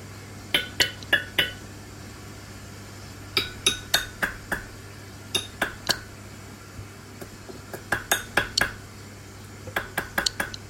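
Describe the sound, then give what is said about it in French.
Sharp metallic clicks from the underwater call of a Surinam toad (Pipa pipa), a fully aquatic Amazon basin amphibian, made mechanically by a bone vibrating in its throat rather than by air. The clicks come in quick clusters of two to five separated by short pauses, like glass or cutlery tapping, over a steady low hum. “Donc ça c'est Pipa Pipa. C'est donc un amphibien assez répandu dans le bassin amazonien en général.”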